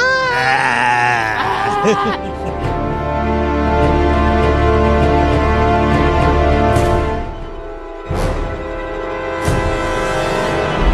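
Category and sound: animal, goats bleating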